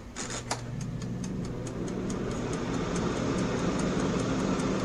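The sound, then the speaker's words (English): An air fryer, just plugged in with its temperature control at 200 and its timer turned on, whirs as its fan comes on with a steady, even rush of air over a low motor hum, while a faint mechanical ticking repeats lightly throughout. No one speaks. “We're going to turn the timer on just a little bit, and you'll hear the fan come on.”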